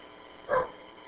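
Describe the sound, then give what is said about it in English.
A dog lets out one short bark, moderately loud, rising briefly above a steady low background hiss. “Cool, dogs are welcome here, as far as I know.”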